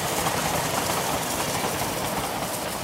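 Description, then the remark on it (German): A train rolls along the rails heading toward Port Elizabeth, a steady, dense rumble with faint rhythmic clatter, loud throughout, with no voices present. “Eines Tages nähert sich ein Zug in Richtung Port Elizabeth.”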